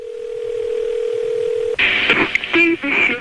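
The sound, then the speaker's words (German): A steady telephone dial tone hums for nearly two seconds, then cuts off into a jumble of dialing beeps and clicks with a voice briefly mixed in, fairly loud. “telefoniert regelmäßig mit Steve Wodka, einem Gewerkschaftsbeamten in Washington, um ihre Funde mitzuteilen”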